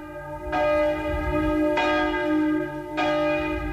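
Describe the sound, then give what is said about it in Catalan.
Loud church bells peal in a steady sequence, three strikes ringing out about every second and a quarter, each one's bright, shimmering tones overlapping the lingering hum of the last. No voices. “Quan van parar de tocar les campanes, va haver-hi un moment de silenci i, des de l'altre front, com si fos un senyal, va contestar un alegre i, al mateix temps, aixordador, repic de campanes.”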